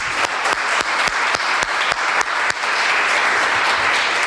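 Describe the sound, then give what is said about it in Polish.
A crowd applauds steadily, a dense wash of many hands clapping with a few sharper individual claps standing out, holding at an even, fairly loud level throughout. “Co prawda otrzymałem od Państwa brawa już na początku, ale nie przedstawiłem się, a poza tym bardzo mi zależy na tym, aby Państwo mi bili brawo raz jeszcze.”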